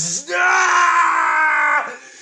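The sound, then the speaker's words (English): A single loud, sustained human scream of pain, held for well over a second with a strained, harmonic-rich tone, cutting off abruptly and followed by a brief breathy fade. “Hearing you scream is like music in my ears.”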